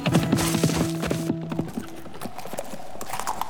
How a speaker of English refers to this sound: My horse's hoofs sounded too loud against rock and hard ground.